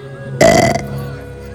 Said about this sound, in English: Mole burps.